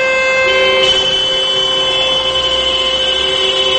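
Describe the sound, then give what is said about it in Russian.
Many car horns blare at once in a continuous, overlapping chorus of steady, high-pitched tones, loud and unbroken, with no talking: motorists across Perm, Russia, sounding their horns for one minute at 12 noon local time in the "Signal of Sorrow" memorial for victims of the Lame Horse nightclub fire. “В 12 часов по местному времени практически весь город встал, и в течение минуты автомобилисты подавали звуковой сигнал.”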